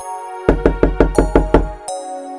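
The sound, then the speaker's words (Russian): A sage knocks on a wooden door to show how it is done: a rapid, evenly spaced run of about eight solid knocks, each a sharp thump with a slight resonance, the last one lighter, with no voices. “Он вывел аиста за порог, постучал в дверь и сказал: «Надо делать вот так».”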